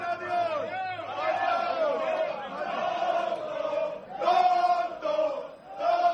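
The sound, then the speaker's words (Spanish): Football fans in a stadium box chant "Adiós, adiós" at Haaland's father, a massed group of voices holding long sung phrases that swell, briefly dip, then surge back in repeated bursts. “Esto le gritaban los aficionados al padre de Haaland.”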